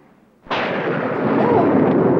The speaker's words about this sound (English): Oh, I hate thunderstorms. They make me a nervous wreck.